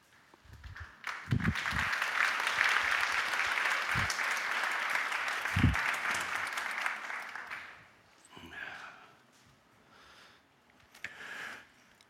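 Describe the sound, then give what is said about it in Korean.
A church audience breaks into steady applause as the preacher comes up to speak, a dense wash of many hands clapping that holds for several seconds, then fades into scattered, quieter claps. “저 올라올 때 박수를 치시는 건 일종의 공식이 됐나 봐요.”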